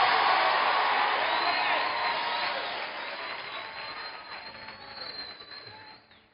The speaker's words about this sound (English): Why don't you give Jesus a mighty clap offering?